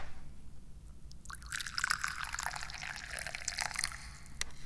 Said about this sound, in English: I'm your chairman and chief tea pourer. So let's pour some tea. What are we drinking today?